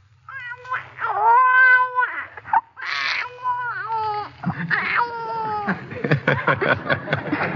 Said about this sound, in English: Oh, yes. A newborn baby is very weak and can't do anything much but just cry and sputter and cough a little, like this.